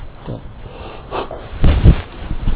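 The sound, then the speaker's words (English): Someone gasps and wheezes after choking on water, with a few strained, ragged breaths that grow louder and heavier toward the end, unaccompanied by talk. “Inhale the air, swallow the water. Keep that straight and you'll live a long life. Yeah. Just keep breathing. There. Don't choke.”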